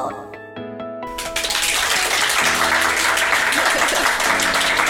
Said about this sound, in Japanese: 皆さん拍手ありがとうございます